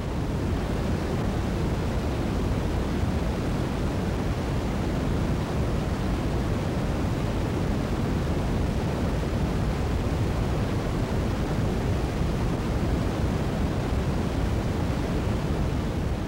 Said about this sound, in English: Those sounds are now slowly ebbing to us here on Earth as microwave radiation